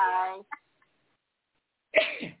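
A single sharp, breathy sneeze bursts out after a short pause, preceded by a brief voiced sound and a tiny catch of breath.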